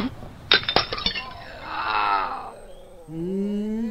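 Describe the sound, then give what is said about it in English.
A 700 ml glass bottle of Johnnie Walker Blue Label King George Scotch whisky, dropped by a man fumbling for his keys by his car at night, hits the ground and shatters in a quick burst of sharp crashes and tinkling shards, followed by a drawn-out, wavering tonal sound. “here to lament the waste of 700 mil of highly prized malt from a distillery that no longer exists.”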